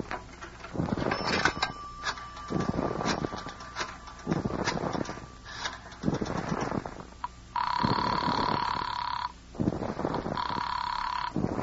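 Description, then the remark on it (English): A telephone rings twice in long, loud bursts of bright trilling tone, with a brief pause between them, following several seconds of muffled, rumbling activity. “But other than that, it will just take a phone call.”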